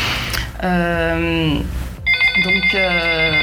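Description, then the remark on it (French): A phone's musical ringtone plays loudly, a bright electronic melody in two phrases, the second with quick pulsing notes, and no one talking over it. “J'aurais dû mettre le téléphone, le couper, mais ça, je peux pas le faire, malheureusement.”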